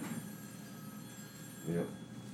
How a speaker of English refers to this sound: And as it goes, the phone rings, spooks you.